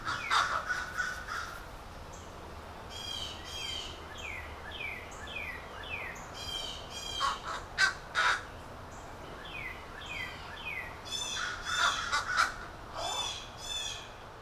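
Crows caw repeatedly in harsh, ragged bursts around a neighborhood, mixed with the sharper, excited "jay" calls of blue jays. The calls come in overlapping clusters over a steady outdoor hiss, with no voices.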